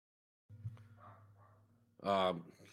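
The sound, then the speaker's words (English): A dog lets out a loud, sharp bark, following a stretch of low background hum and faint indistinct sounds. “My dog is barking uncontrollably.”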